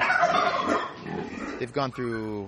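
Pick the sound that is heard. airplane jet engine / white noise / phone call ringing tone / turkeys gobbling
turkeys gobbling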